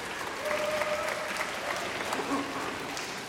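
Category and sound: crowd, orchestra applauding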